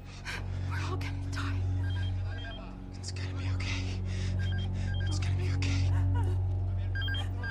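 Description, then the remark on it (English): Beresh's telephone rings with repeated short electronic trills, sounding several times at a moderate level over a steady low hum and busy background noise. “Beresh answers his phone.”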